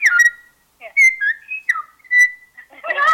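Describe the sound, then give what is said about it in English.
A person whistles a bird call imitation, a series of short, sliding chirps and warbles with brief pauses between them, clear, ending with a fuller, breathier burst. “Do bird calls as well.”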